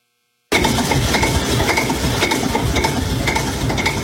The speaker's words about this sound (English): If your diesel engine sounds anything like that, it's time to drive right on in to Quick Lane in Sheraton, where our factory certified technicians are ready for your diesel repair.